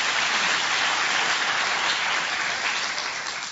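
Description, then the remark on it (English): Steady, dense applause from an audience for people willing to give church a try, a bright crackling wash of many clapping hands that holds at an even loudness throughout and eases off slightly at the end, with no voices. “So I just want to say thank you, and let's just give an applause to the brave people who are willing to give church a try.”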